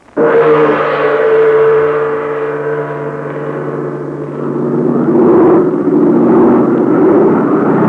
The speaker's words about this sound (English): That's Dude Hennick's big American-made plane, the plane he flies for the Chinese Army. But today he's flying Terry Lee, Pat Ryan, Burma, and April Kane to a remote spot many miles from Chungking.